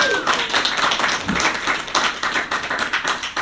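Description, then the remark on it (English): A crowd breaks into steady, loud applause, many hands clapping at once in a dense, continuous patter that holds for a few seconds without dying down. “Clap it up, everyone.”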